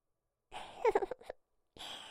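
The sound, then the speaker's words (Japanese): A single breathy yawn from a customer during an ear acupressure massage: a long airy inhale swells into a short, wavering voiced moan, then trails off. A softer breath follows after a brief pause. “あくびですか？”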